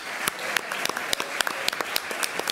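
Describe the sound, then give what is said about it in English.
An audience claps steadily, a dense wash of many hands with sharp individual claps popping out irregularly, moderately loud and sustained throughout, applauding the candidates at the close of the 11th Congressional Debate Candidate Forum. “A round of applause.”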